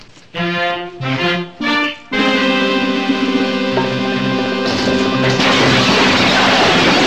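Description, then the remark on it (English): Glass smashing: a few short ringing bursts give way to a long, loud sustained tone that breaks into a harsh, noisy crash and keeps going to the end. “I promised control I would break that glass. And I'm going to break it.”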